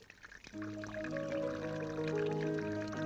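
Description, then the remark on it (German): Water drips and pours steadily in a cave while sustained, ringing tones hum underneath, like a water piano. Fairly loud, beginning after a brief quieter moment, with no talking. “Hey, spielst hübsch auf deinem Wasserklavier, mein Freund.”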